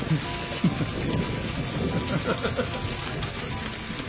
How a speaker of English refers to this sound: Flooding, come on, we're getting soaked. Oh, I love the rain.